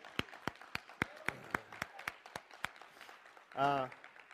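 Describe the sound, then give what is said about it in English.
An audience claps their hands in praise to God in a steady, unison rhythm, a dozen or so sharp claps, ending with a short, loud voiced cry. “Let's give God just a hand clap of praise.”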